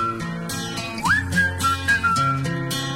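A clear whistled melody glides upward and then holds steady notes over a bouncy pop backing track with a steady beat and bass, no voices singing or talking.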